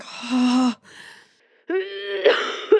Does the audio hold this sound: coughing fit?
yes